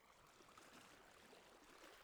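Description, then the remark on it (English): A steady, soft rush of ocean water, a continuous wash of surf with no clear breaks between waves, heard alone at a low level. “Listen to the ocean.”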